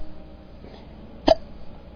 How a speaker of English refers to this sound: I have this case of hiccups that just won't quit. Help.